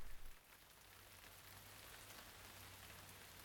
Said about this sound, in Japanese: 雨が降ってきたな。 通り雨だろう。時期に止むさ。